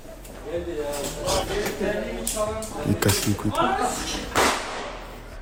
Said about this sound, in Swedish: klipp som har cirkulerat är på den gamla storspelaren Mario Balotelli, som numera huserar i den turkiska liga. Men det är ett klipp från omklädningsrummet där han sitter och kastar smällare på sina kollegor eller kompisar i laget. Lyssna på det här.